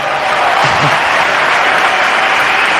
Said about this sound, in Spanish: Levanta de nuevo los aplausos.